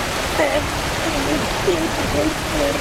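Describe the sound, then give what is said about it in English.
Water rushes and sprays steadily from a fire hydrant mounted on top of a race car called Fire Hydrant Head, in a loud, continuous hiss with no breaks, while indistinct voices murmur faintly beneath the gush. “This car is called Fire Hydrant Head because there is a fire hydrant on top of the car that is exploding with water every single second.”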